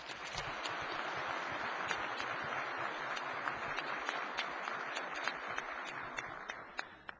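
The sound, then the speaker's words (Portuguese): Sustained applause from a crowd as a tribute to former minister Murilo Ringel: a dense steady patter of many hands clapping at an even level for several seconds, with a few sharper individual claps standing out and no voices. “A gente gostaria de, neste momento, fazer um parêntese e prestar a ele uma homenagem, dando a ele uma salva de palmas.”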